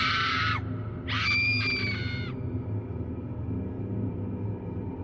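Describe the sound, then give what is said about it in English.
A person screams twice at night outside a store, first a short shriek, then a longer, strained wail after a brief pause. A steady low rumble continues underneath and lingers after the screams end. “I began to scream.”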